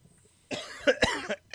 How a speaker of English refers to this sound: Uh-oh, he's choking. Sorry, I'm still getting over a little bit of the strep throat and the whole, like... It came with a nasty cough, too.